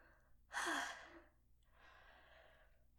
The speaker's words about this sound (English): I yawn a lot when I get tired.